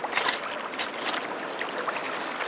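river water flowing

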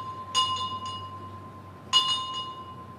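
dinner bell ringing

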